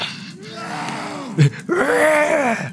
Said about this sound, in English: It sounds like they're being attacked by like a zombie inside as the building's coming down. It literally sounds like a Walking Dead walker. The man roar or whatever.